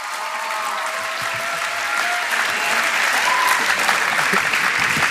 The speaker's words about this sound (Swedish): Underbart. Tack så jättemycket för det ni delade. Ja, vi kan ge dem en stor applåd. Tack så mycket.